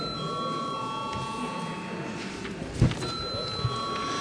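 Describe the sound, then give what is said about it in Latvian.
A steady electric bell rings continuously in the chamber of the Saeima, Latvia's parliament, before a vote, its sustained tone filling the whole stretch with faint murmuring and a couple of soft knocks in the background. “Lūdzu zvanu.”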